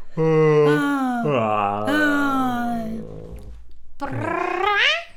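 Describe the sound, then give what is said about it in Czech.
A loud, drawn-out voiced yawn imitating a bear, done as a vocal exercise, with low groaning tones sliding up and down, a brief pause, then a second yawn rising to a high pitch before cutting off. “Pak zíváme na hlas ven.”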